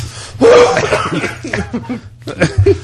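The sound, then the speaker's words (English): A sudden harsh cough bursts out, followed by a string of short, choppy bursts that could be more coughing or laughter, with a faint low hum underneath. “How's your coughing done?”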